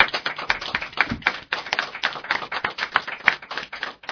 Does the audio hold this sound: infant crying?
no